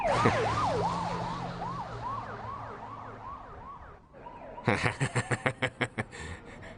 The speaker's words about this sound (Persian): آژیر این کجاست؟ اینجا.